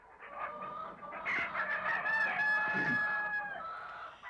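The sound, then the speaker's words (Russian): A poultry yard with hens clucking and a rooster crowing loudly, one long drawn-out crow rising over a busy layer of clucks and cackles. “Скоро добрались и до птичьего двора.”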